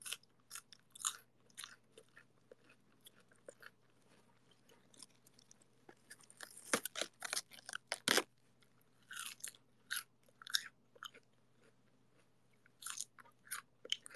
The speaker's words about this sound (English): I'm eating lettuce. Don't know why, I was feeling really hot. So I went to my fridge and I pulled out this head of lettuce that I got. And so crispy. Crispy and cold and refreshing. Super crunchy.